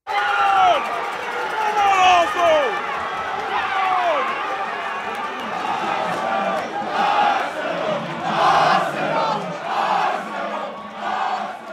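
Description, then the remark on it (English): A packed crowd of soccer fans in a crowded bar in downtown Brooklyn shouts and cheers continuously for Arsenal Football Club, a British team. Voices overlap in loud, rising bursts, with swelling roars toward the end, boisterous. “Instead, I was standing in a crowded bar in downtown Brooklyn, screaming my lungs off for my favorite British soccer team, Arsenal Football Club.”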